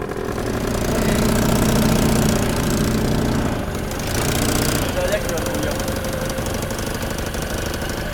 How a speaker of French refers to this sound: Mais je sais pas, c'est un moteur de chevaux qui est monté dans un cadre fait maison de tricycle.